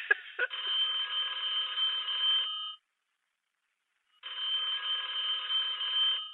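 A telephone rings in two long bursts separated by a gap of silence, a steady electronic trill with dense harmonics, fairly close and clear with no talking over it.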